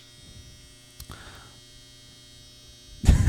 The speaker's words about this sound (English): Can you hear that? Did we turn whether you could hear that last time? You can't hear it. It was the dryer going on. It was the dryer going yes. really loud.